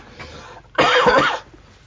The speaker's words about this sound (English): And I can have a cough.